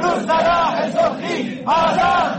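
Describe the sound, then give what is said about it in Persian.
Protesting teachers in Shiraz chant and shout in unison on a Sunday, crying out for justice, voices rising in loud sustained cries that swell, dip briefly, then surge again with fresh force. “روز یکشنبه در شیراز هم معلمان فریاد دادخواهی سر دادند.”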